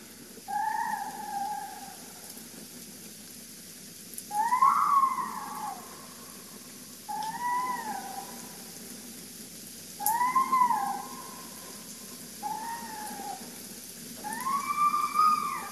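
fox screaming

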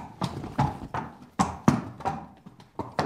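horse hooves clip-clopping

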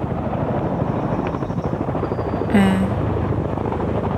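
helicopter flying overhead

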